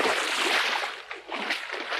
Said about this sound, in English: With all the splashing they made, the silver reflection of the moon in the bottom of the mill pond broke into 1,000 pieces and melted away.